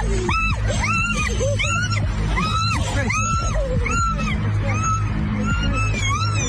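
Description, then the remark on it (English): A woman out hiking shrieks in fright over and over at a fake snake tied to her backpack after someone yells snake, a rapid string of loud, high-pitched screams, each rising and falling, continuing for several seconds with no talking. “Oh, and then you yell snake. Yeah. And watch the other person scream.”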